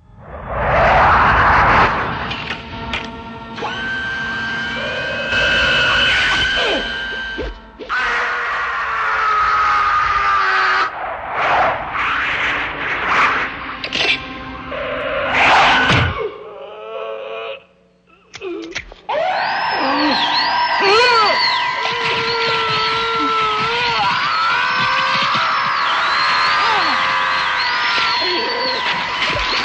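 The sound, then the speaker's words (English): A loud, chaotic scene from the film Phantasm 2, directed and written by Don Coscarelli, featuring the deadly flying sphere: its whirring, swooshing sound rises and sweeps through the first half, then a brief lull before sustained, wavering screams ring out over clattering noise. “This is a scene featuring the deadly flying sphere from Phantasm 2, directed and written by my guest, Don Coscarelli.”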